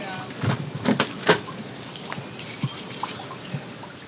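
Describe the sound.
Someone forces open a warped trailer door on returning home after flooding: a few heavy thumps and shoves, then a rattling, scraping clatter as it gives. Faint voices murmur in the background.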